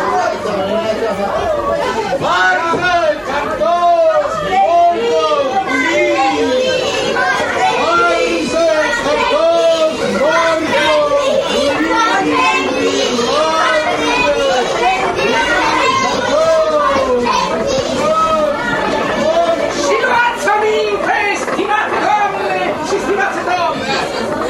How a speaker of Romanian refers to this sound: Dar ce s-a întâmplat? Iată, în colțul străzii se adună mulțimea. Trotuarul a devenit deodată neîncăpător.